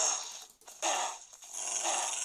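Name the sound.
dog growling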